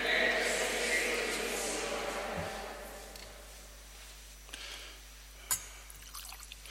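A thin trickle of water is poured into the wine in a chalice as the offertory prayer on mixing water with wine is spoken, a brief liquid splash fading with an echo, followed by a faint clink.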